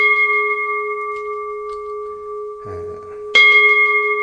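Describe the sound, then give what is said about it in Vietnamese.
A deep Buddhist temple bell, struck in spaced strokes at the start of a ceremony, rings out with a long sustained hum, then a second strike lands about three seconds later, loud, its tone swelling again and lingering. “Chúng ta nhớ thỉnh chuông khi mà chúng ta lên, chúng ta đánh giải ra, đánh giải ra như thế này.”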